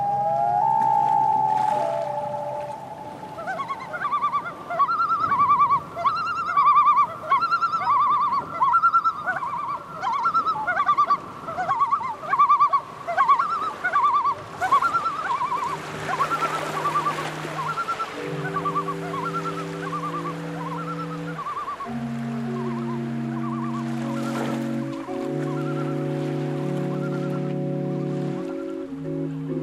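Geese honk repeatedly in a loud, busy chorus from perches built into the structure above an organ, overlapping calls coming in rhythmic bursts, later joined by long sustained low tones beneath the birds, with no talking.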